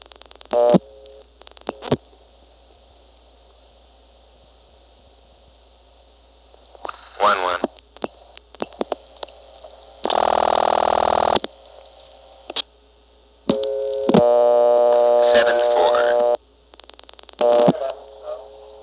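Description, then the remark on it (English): Plainfield telephone exchange switching train: scattered sharp relay clicks, a loud burst of hissing buzz, then a steady tone with harmonics that ends abruptly, and more clicks afterward. “Anyway, back to the Plainfield switching train. Here is 7-3, 7-4, and 7-5.”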